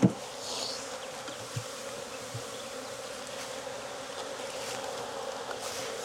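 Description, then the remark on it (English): A dense, steady drone of many honeybees buzzing around an open hive as a beekeeper pulls frames, continuous, with a few sharper individual buzzes passing and no voices. “They're getting a little angry, aren't they?”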